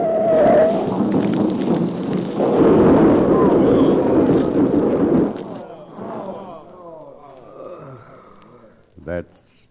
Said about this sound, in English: That's the end of her. Yeah. What an awful way to end. Smashed up in the wreck of a flaming freight car.